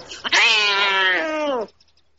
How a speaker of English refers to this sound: Frith, it's the farmyard cat.